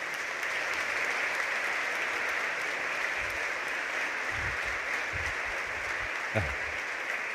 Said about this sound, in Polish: Proszę się przyznać, proszę wstać. Tam jest pani. Oklaski dla całej rodziny.